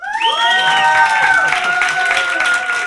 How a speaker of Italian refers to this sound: E poi abbiamo qua un pubblico dell'Auditorium di Metro Stratos al quale chiedo un'ovazione per i nostri ospiti, fatevi sentire.